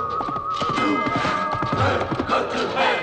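Horse hooves pound along a track in a steady, continuous stream, loud and close, with what sounds like whinnying and a busy, crowded background mixed in throughout.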